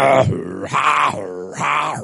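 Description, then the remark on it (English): A voice imitates a hard-working man snoring in his sleep with three loud, rasping, drawn-out breaths in a steady rhythm, each a low guttural rumble rising into a buzzy nasal snort, with brief pauses between. “When a hard working man lie down to sleep, what do you expect? You got to play some music in your sleep.”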